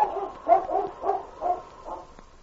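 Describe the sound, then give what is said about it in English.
The dog Whitey barks savagely in a quick, steady series of about five sharp, harsh barks, fairly loud, with no talking around them. “And then, with a savage bark, Whitey turned and headed up trail.”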